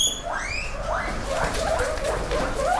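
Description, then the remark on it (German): Four guinea pigs scurry out of their hutches in a barn with a steady rustle, letting out a series of short, rising squeaks and chirps, moderately loud, with no one speaking. “In einer Scheune huschen 4 Meerschweinchen aus ihren Häuschen hervor.”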